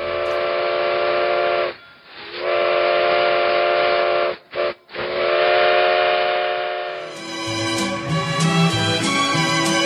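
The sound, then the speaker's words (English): A loud steam train whistle sounds in long sustained blasts broken by a quick short toot, then gives way to rumbling, hissing locomotive noise as the train rolls in. “The train pulled into the North Pole and Tiny Tim exited the refrigerated car.”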